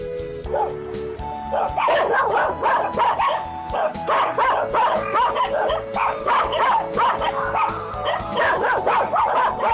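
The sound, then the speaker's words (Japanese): A dog named Tarokichi barks loud in a rapid, nearly continuous string of sharp yaps and yips, with some whining mixed in, keeping up the excited barking for about ten seconds. “でも、お前は優しい子で、犬のタロキチも、お前の子がいないって、やってた。”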